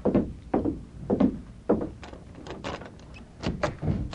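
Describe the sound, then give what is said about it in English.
A hotel room door being opened at midnight: a run of heavy wooden thunks and knocks, then lighter clicks and rattles of a latch, fairly loud, with no voices. “Stand to one side, Tonto, and cover me while I open the door.”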